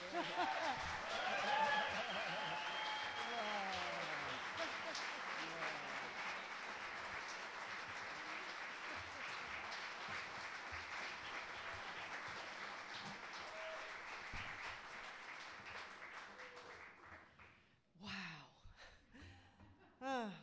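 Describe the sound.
Sustained audience applause, a dense steady wash of clapping with scattered cheers and voices, holding strong for about seventeen seconds before tapering off into a few scattered claps.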